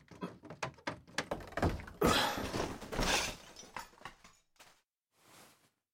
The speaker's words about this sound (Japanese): なあ、ちょっと待って。俺が開ける。ドアのそばに物があって開きにくいから。